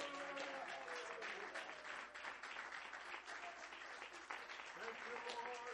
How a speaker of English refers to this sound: Would you clap your hands one more time to Jesus?